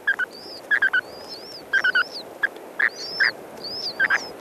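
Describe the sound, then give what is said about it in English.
Spoon-billed sandpiper chicks, just hatched beneath the male at a nest in Chukotka, give thin, high, wavering cheeps while the father answers with stronger, lower peeping beeps in quick clusters of two or three, repeated throughout over a soft background hiss. “You can hear the tiny cheeps of the chicks and their father's stronger peepee beeps.”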